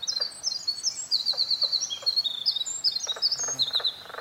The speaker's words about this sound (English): So you can hear the winter wren, that long, beautiful bird song, and this strange kind of frog sound.